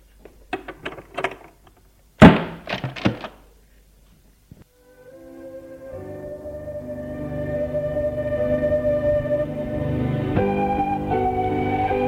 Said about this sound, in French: Et elle ferme la porte.